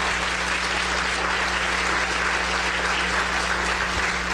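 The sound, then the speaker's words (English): A crowd applauds steadily, a dense, even wash of many hands clapping at a constant loudness for several seconds, with a low hum underneath and no voices. “Please clap for her, because she did so much work.”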